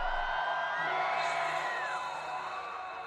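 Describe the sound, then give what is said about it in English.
A large concert crowd in Mexico screams and cheers continuously, a dense wall of high-pitched shrieks and whoops that stays loud and sustained throughout, with no distinct individual voices standing out. “Everybody scream!”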